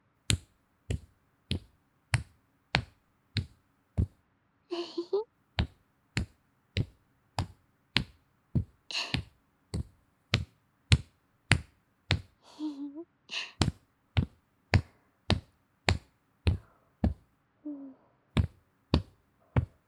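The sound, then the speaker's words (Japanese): Steady, rhythmic taps on the area around a person's neck to help blood circulation repeat about twice a second, sharp and fairly loud, with a few soft breathy sighs between them and no speech. “首の周りをトントントンタンって叩いて、血行とかも良くしていこうね。”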